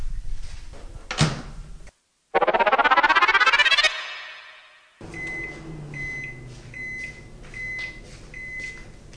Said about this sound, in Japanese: 冷凍おにぎりを入れて、ちょっとふんわりと ラップをかけましょう。そしてこれを600ワットの電子レンジに1分かけます。軽く温める形ですね。